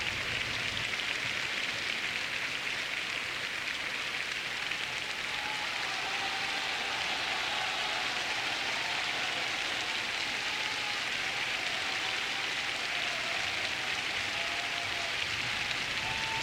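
A large concert audience applauds continuously after a performance of the final scene from Strauss's Salome by Montserrat Caballé and Zubin Mehta with the New York Philharmonic. It is a dense, steady roar of clapping that holds at an even loudness throughout, with no voices rising above it.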